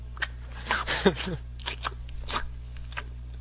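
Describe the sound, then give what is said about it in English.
A person makes exaggerated chewing noises like a cow, a handful of wet, crunchy mouth bursts in an uneven rhythm, with no words spoken. “I chew them like a cow.”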